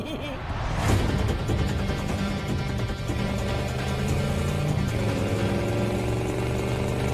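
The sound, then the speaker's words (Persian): A car engine roars to life with a sharp burst, then revs loudly and steadily, its pitch climbing as the vehicle pulls away, continuous throughout. “بریم ماشین بتمن سواری.”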